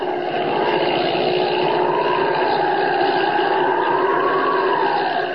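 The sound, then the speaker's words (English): Holbein's small airplane's engine drones steadily as it circles, getting ready to land at the Sudbury airport, its pitch slowly rising and falling in a long wavering sweep, loud and unbroken with no voices. “He's circling, getting ready to land.”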